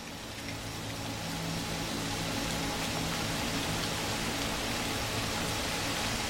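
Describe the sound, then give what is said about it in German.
Soft, steady rain patters continuously on leaves overhead, a dense hiss of drops with no single standout hits, staying even and unbroken throughout. No voices are present. “Tropfen fallen leise auf die Blätter über dir und erzeugen ein beruhigendes Prasseln.”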